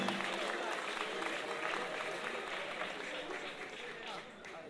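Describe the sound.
An audience applauds in a dense, steady wash of clapping that holds at an even level for several seconds before easing slightly at the end, with crowd voices mixed faintly underneath.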